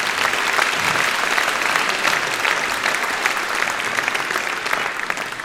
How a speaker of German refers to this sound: Das ist einmal ein Applaus.